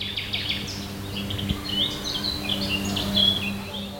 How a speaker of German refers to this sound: Was viele nicht wissen, trotz des Namens Nachtigall, man kann sie auch tagsüber hören. Der Beweis?